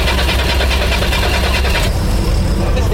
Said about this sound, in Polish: Tak, to jest właśnie też czasami magia starych samochodów. Nieraz pali od razu, tak powiem, na strzała, ale czasem zdarzą się problemy, bo on w ogóle nie był odpalany przez 3 miesiące. Jest to rocznik 72 i 73.